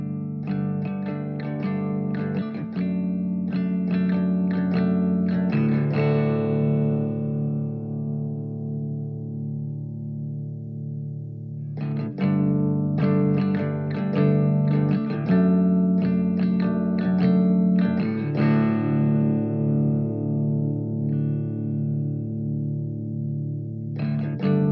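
A loud rock song built on thick, heavily distorted guitar chords and steady drum hits, cycling through a repeating riff that swells and rings out twice. No one speaks.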